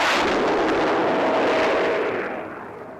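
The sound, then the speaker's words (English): Mike Lithgow's Supermarine Swift jet fighter, with reheat on, roars past about 50 feet above the sea in a loud, continuous rushing blast that holds steady, then gradually fades as it tears away towards the mountains at Yeffren, its hissing upper edge dying away. No voices. “He's got the reheat on, and that is the thing that really makes the bang.”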